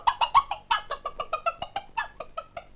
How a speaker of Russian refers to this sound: Услышав такие слова, королевские куры, петухи и индюшки так рассердились на гордую незнакомку, что стали ее клевать, бить крыльями и топтать ногами.